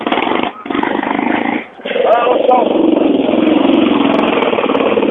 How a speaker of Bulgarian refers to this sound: Над 1000 рокери посетиха тази годишния традиционен мотосъбор в местността Предела, което се оказа твърде тясна за любителите на високите скорости. Цели два дена ревът на мотори огласише Пирин планина.